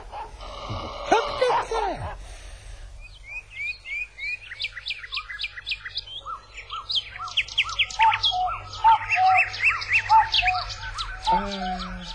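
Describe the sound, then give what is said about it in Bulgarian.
Busy birdsong of quick, high chirps and trills, with a few clear, lower call notes of a cuckoo repeated toward the end. A brief vocal-like sweep comes at the start. “Една, две, ето и куковица ме закука, дълги години живот ми обеща.”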